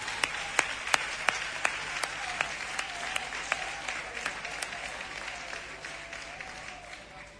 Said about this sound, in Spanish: Bueno, un aplauso, ¿no?, para calentar el ambiente.